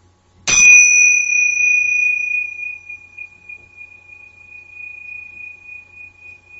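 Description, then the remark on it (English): Two small meditation bells (tincture bells) are brought together once to begin a moment of silence, releasing a bright, high, shimmering ring that hangs in the air for several seconds and slowly fades, with no voices. “I want to start this talk with a moment of silence, and I'm going to bring the two tincture bells together.”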